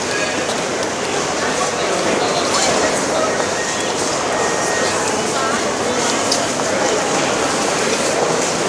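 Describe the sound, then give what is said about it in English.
A train rolls along railroad tracks in a steady, continuous rumble with a faint rhythmic clatter, loud throughout, while muffled voices murmur underneath. “No, no, it's just the railroad.”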